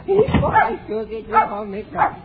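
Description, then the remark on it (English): A dog barks in short, repeated bursts, four or so loud yaps spaced unevenly, with a person's voice mixed in. “Stop barking now.”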